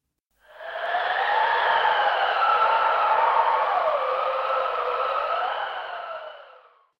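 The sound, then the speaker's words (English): A strong wind howls steadily during a storm on a cold day under dark clouds for several seconds, its whistling pitch rising and falling in long waves before fading away. No voices are heard. “The wind is blowing hard and fast.”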